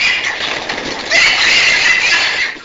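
Several pigs squeal in panic, a shrill, unbroken chorus of high-pitched screeches that swells louder about halfway through and holds steady to the end, with no talking.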